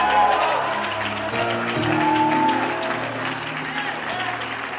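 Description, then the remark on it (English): A large audience at a church service claps steadily and cheers to celebrate and rejoice, with many voices shouting over dense, continuous applause at a consistent volume throughout. “If you believe that with me, let's take 15 seconds and celebrate it. Clap your hands. Rejoice.”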